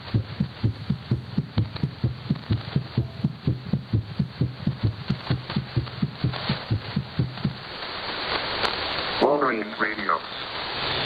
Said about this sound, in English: And when it got really quiet, I thought, well, there'll be an ID in here. And then I heard a heartbeat.